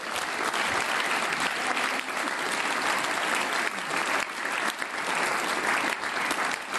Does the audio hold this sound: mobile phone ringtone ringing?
no